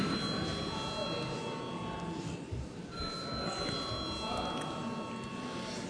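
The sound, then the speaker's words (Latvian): A continuous electric bell rings steadily for several seconds in a parliament chamber before a vote, loud and unbroken, over a low murmur of voices and shuffling. “Paldies, lūdzu zvanu.”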